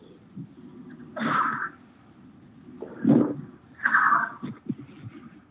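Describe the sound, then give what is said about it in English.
Three loud sneezes in quick succession, each a sharp breathy burst with a rising inhale before it, heard alone without talking. “I'm sorry, I keep sneezing right now.”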